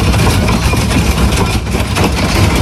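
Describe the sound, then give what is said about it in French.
Hail pounding on an airplane standing on the tarmac at Roissy airport, heard from inside the cabin: a loud, continuous, dense roar of countless impacts merging into a steady rumbling wash with no pauses and no voices. “Ce bruit, c'est celui de la grêle.”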